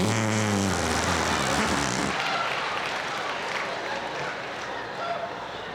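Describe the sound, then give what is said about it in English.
A buzzy, flapping fart noise made by squeezing air out of the crook of an arm, lasting about two seconds, followed by a rough, hissing wash of noise. “There were a lot of ways to make the fart sound when you were a kid.”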